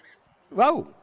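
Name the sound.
bird calling nearby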